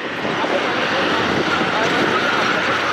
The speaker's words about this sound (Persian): صدای تانک‌ها و خودروهای زرهی اسرائیلی در اطراف نوار غزه. ارتش اسرائیل خود را برای یورش زمینی به غزه آماده می‌کند.